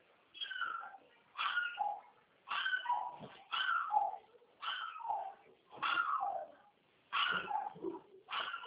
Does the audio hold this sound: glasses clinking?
no